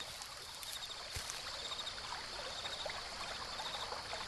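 Water trickles and burbles steadily in the brook of Kidron in the dark, a continuous soft babbling with light splashes, with no voices.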